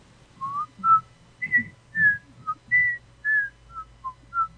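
Someone close by whistles a string of about a dozen short, wavering notes, the pitch jumping up and down unsteadily with breathy puffs between them, over a faint low hum.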